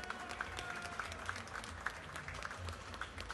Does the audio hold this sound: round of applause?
yes